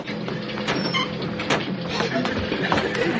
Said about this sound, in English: What is that? Sounds like the washing machine. That machine is brand new.